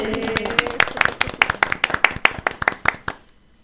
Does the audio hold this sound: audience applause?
yes